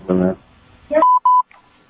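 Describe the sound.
Three quick telephone keypad dialing tones beep in steady succession, loud, following brief bursts of a voice, as a phone call is placed during a meeting.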